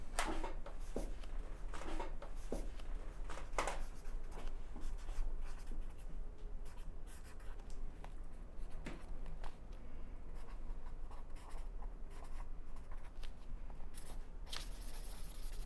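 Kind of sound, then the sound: tool, pen writing an entry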